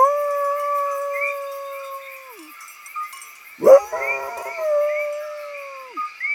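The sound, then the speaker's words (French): A wolf howls in the mountains in two long, steady, drawn-out calls that each slide downward at the end, with a brief sharp yelp between them and faint layered howls in the background. “Puis, ce fut un hurlement dans la montagne.”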